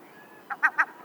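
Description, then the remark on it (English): A glaucous-winged gull gives three quick, nasal calls in a short rising burst, clear against a quiet background with no talking. “That's our bird of the month for March, the glaucous winged gull.”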